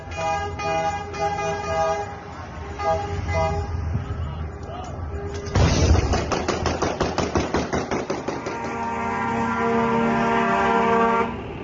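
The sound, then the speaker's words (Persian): Car horns honk steadily in a noisy street in Lebanon, then a loud burst gives way to a rapid string of sharp bangs like celebratory gunfire, with voices and horns continuing underneath, as people celebrate with shooting and dancing the arrival of fuel tankers from Iran. “میریم به سمت خیابونهای لبنان که ببینیم چگونه از خوشنودیشان به خاطر دریافت انرژی رایگان از سوی جمهوری اسلامی به جشن و شادی و تیراندازی و پایکوبی میپردازند.”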